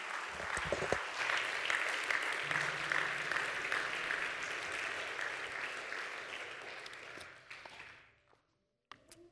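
A church audience claps hands together for the Lord in a dense, steady roar of applause that holds for about eight seconds, then tapers off quickly into near silence. No one speaks.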